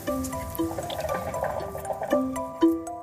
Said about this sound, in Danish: Vandpiberne bobler.